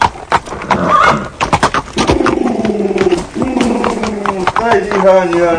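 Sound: horse hooves approaching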